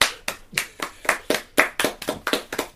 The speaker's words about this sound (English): Sorry, he loves applause. He loves applause.